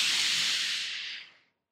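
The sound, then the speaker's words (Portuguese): A steady, bright fizzing hiss, like an effervescent tablet dropped in water, sounds up close for about a second and a half before cutting off abruptly. No voices. “Chega, crente não pode ser daqueles que vivem como sonrisal, sempre em efervescência.”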